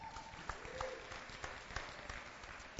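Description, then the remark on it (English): A modest, half-hearted round of applause from a group: scattered, uneven claps blend into a steady crackle at moderate volume, with a few sharper claps standing out, and no talking over it. “And that half-hearted round of applause was for you, my friend.”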